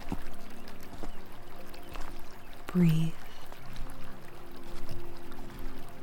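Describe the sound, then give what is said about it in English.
A steady, soft wash of flowing brook water runs through the whole clip, a gentle continuous babble beneath a calm voice speaking a single word. “Let all that tension flow out of you and down the waves in the brook.”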